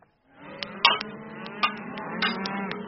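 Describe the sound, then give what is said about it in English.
Cattle low and moo from a herd on a ranch in Harney County, southeast Oregon, where the young animals are to be branded, castrated and vaccinated, their calls overlapping against a busy background of clicks and rustling movement, with no one talking. “And before these cattle can be let out to graze on summer range, the young animals have to be branded, castrated, and vaccinated.”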